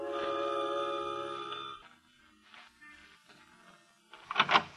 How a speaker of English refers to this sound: Ring the doorbell, murderer.